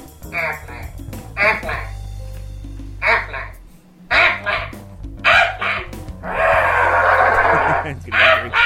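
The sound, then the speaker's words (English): A person does an Aflac duck impression at an audition: a series of loud, nasal duck-like quacks with their voice, several raspy bursts in an uneven rhythm, the last one drawn out, over a low background hum. “That's his duck impression.”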